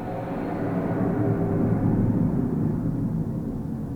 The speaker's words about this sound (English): That plane was flying low.